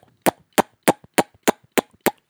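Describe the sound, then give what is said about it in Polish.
Seven sharp, punchy kiss-like smacks made with the side of the mouth as a beatbox sound, pitched low for a bassy thump, repeated in an even, quick rhythm with brief silences between and no talking. “Zrób dźwięk taki jak przy dawaniu komuś buziaka.”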